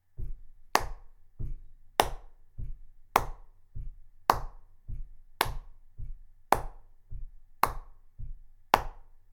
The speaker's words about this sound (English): This time, we're only going to clap on the twos. So if you start your foot on the left, right, when you do the right. So we go.